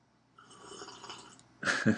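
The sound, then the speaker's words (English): A soft, airy slurp of hot Irish tea with Irish cream drawn in for about a second, followed by a louder, wetter slurp and gulp at the end. No talking. “That's for all those people who hate it when people drink and slurp.”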